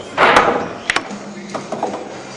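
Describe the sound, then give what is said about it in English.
Billiard balls knock together: a broad opening strike, then a quick pair of sharp clacks, followed by a few lighter, scattered clicks as the balls settle. No voices. “Billiard balls, on the other hand, are like particles, and when they run into each other, you know it.”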